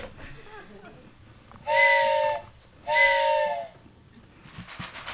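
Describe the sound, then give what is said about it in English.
Two long blasts of a train whistle, each about a second, steady and loud with bright harmonic tones over a hissy, breathy rush, separated by a short pause above a low background rumble. “I took a train the rest of the way.”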